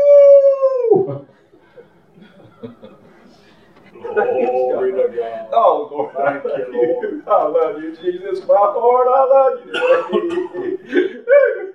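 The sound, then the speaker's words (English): A person gives a short, loud wolf-like howl that slides downward and cuts off, then after a brief hush, animated, excited vocalizing starts up and carries on. “Old wolf comes around.”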